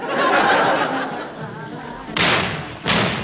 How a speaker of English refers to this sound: Yes, listeners, those mysterious explosions were the first of many.